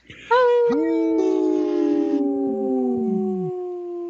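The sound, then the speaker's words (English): Several people on a radio show howl like wolves, their voices entering one after another and overlapping in long, loud, sustained tones that slowly slide downward in pitch before trailing off. “We got to make these guys howl.”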